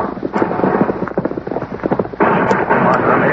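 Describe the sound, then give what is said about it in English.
Scattered gunshots crack out at riders on horseback amid a dense, continuous clatter of galloping horse hooves, the sharp bangs irregular and partly buried in the rumbling, noisy din. “I've not been shot at so much for a month.”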